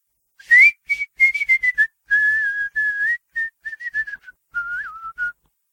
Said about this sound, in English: … whistled a calliope tune.